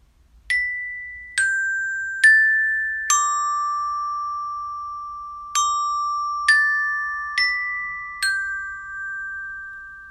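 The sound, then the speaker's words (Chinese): A school bell chime signalling lunchtime in a classroom plays a melody of eight clear, struck notes at shifting pitches, each ringing and slowly fading into the next, heard alone with no talking. “只要钟声一响起，小新就会大喊一声哇，充满整个教室。”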